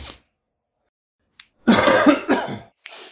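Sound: cough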